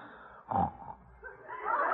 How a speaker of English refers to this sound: How do you like that? Snores off key. Well, he's dead to the world.